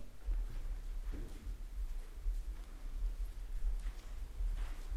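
Brisk footsteps thud steadily across a floor at a quick, even pace, the impacts soft, with some faint scuffing between steps and no talking.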